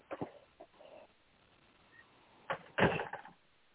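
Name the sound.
door being closed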